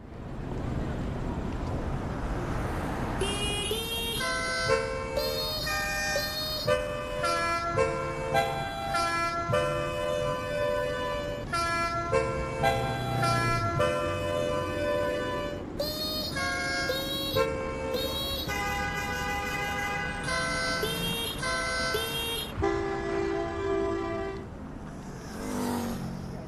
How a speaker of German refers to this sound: welches Lied hier im Stau auf der 6-spurigen Stadtautobahn gehupt wird. Ein Hubkonzert in der Großstadt. Welches Lied ist das?